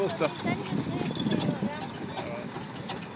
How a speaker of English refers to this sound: The flat-flying traction engine is another well-travelled machine. This is another Fowler. Sound good, don't it? It's come back from Australia to where it was exported in 1907. So it's and that's going past us now.